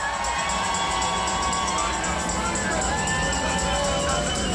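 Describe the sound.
A crowd cheers and applauds steadily and loudly, with shouts and whoops rising above the continuous roar of clapping and voices throughout.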